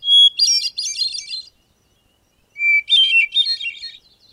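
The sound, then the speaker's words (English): A hermit thrush sings two clear phrases, each opening with a pure sustained whistle that breaks into fluttering, ethereal trills, separated by a second of silence. The song is bright, with no voices. “Like the winter wren, the hermit thrush lives in moist coniferous woodlands. It's also called the swamp angel for this exquisite song.”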